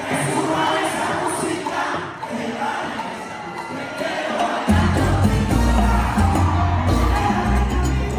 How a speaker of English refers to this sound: You heard the crowd. The crowd went crazy as soon as that happened.